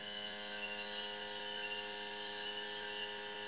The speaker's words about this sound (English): Somebody crying, a couple of guys talking, and some electronic sound buzzing through the air.